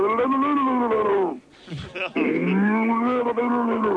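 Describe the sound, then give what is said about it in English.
A man's voice imitates a drowning cow with long, strained, gurgling moos, broken by a short wet sputter in the middle, loud. “A drowning cow.”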